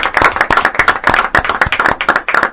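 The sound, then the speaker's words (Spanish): A burst of applause from a small group before a farewell toast, many quick overlapping claps forming a steady, lively patter that stays loud for the whole moment, with no voices standing out. “Y nosotros, antes de brindar, le podemos dar otro fuerte aplauso.”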